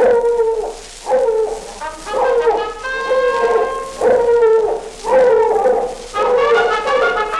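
A hound dog bays and barks repeatedly, loud, in a steady series of drawn-out, howling calls with brief gaps between them and no talking.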